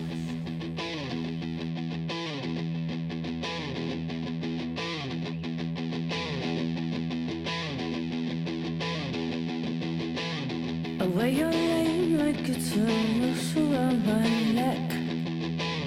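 A rock song intro of distorted electric guitars chugging through a steady repeated riff, loud and dense, swelling fuller and brighter near the end as a new melodic line rises over it.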